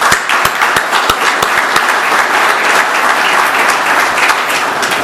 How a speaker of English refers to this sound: So please, would you give them a round of applause?